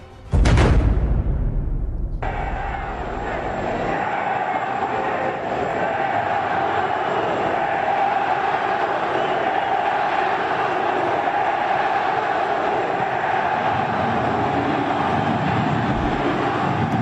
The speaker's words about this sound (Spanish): Así en el estadio, empezaron a gritar el fuera Vucetich.